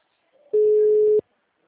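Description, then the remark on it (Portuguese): A single loud, steady mid-pitched telephone ringback tone from a call to someone who is not answering holds for about two-thirds of a second on its own before cutting off. “Aí depois eu ligo pra ela, não tá atendendo.”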